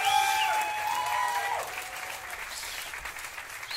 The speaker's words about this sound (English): This goes out to my girls, my gays, my theys, our transgender friends. Clap your fucking hands, y'all. It ain't easy to be them.